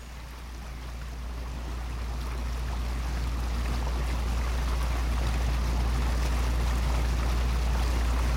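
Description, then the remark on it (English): A steady low engine drone with constant water rush and splashing as a boat travels up the River Blackwater, rising slightly at first then holding level throughout, with no voices. “we continue our trip up the River Blackwater, visiting the historical houses and landmarks that inhabit its banks”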